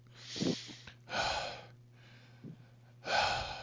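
Exaggerated heavy breathing in the style of an obscene caller: loud, raspy breaths in and out, with about four long breaths in a slow, uneven rhythm and no talking.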